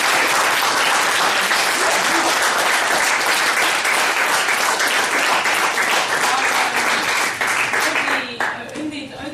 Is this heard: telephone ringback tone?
no